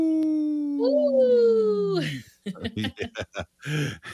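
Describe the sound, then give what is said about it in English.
Human voices on Native Roots Radio imitate wolf howls for a Howling for Wolves segment: a long sustained howl with a second voice joining and rising in pitch, then breaking off into several short bursts of laughter. “We are howling for wolves right now.”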